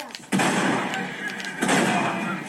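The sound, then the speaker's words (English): Two loud sawn-off shotgun blasts in a video game, fired at a man riding a horse, each a sudden sharp crack followed by a long, roaring noisy tail, the second about a second after the first. “So what I would do is you simply look at the man, select sawn off shotgun, and then...”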